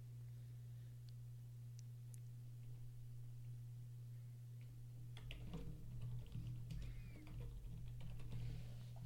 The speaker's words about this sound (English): Now you can hear my keyboard, right? Oh, yeah, big time. Because I moved my mic, but now it's close to my keyboard.